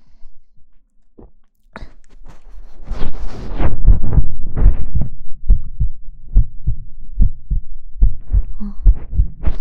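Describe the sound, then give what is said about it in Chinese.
A loud heartbeat, placed in the middle of the listener's head, thuds steadily in a fast, even rhythm, each deep beat muffled and booming, building in after a quiet start and continuing to the end with no talking. “我会把心跳的声音移到你的脑袋中间”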